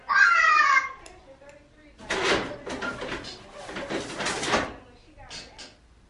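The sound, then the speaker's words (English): A toddler lets out a loud, high-pitched whiny cry for under a second, followed by a few seconds of clattering and rustling, with no adult talking. “Dealing with an unhappy toddler.”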